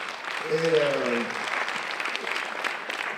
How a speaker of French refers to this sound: Alors je l'invite à nous rejoindre et vous pouvez l'applaudir.